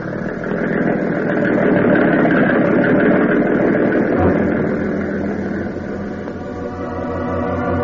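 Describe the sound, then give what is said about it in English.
A motor engine runs with a loud, steady rumbling drone for the whole stretch, its low hum shifting slightly partway through, with no voices over it. “Now, turn that motor over, baby.”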